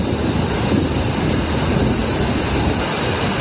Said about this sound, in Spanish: Es el sonido del tremendo aguacero de esta noche en Valladolid. Muchas calles se han convertido en auténticos ríos.